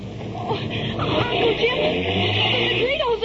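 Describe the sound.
A car engine hums and rises in pitch as the vehicle pulls away, its steady rumble layered over a wash of road noise, with muffled voices underneath.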